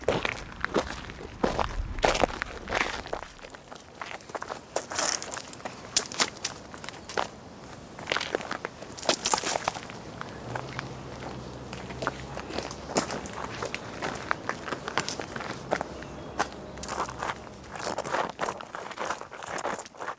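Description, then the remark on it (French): Footsteps walk at a steady, uneven pace for the whole stretch, each step a crisp, slightly crunchy scuff over a soft background rumble, with no voices. “Marcher, fouler, frotter, s'éclabousser, enjamber.”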